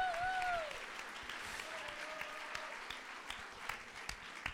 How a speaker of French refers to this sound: Et à vos côtés, allez, aussi des applaudissements pour André Manoukian.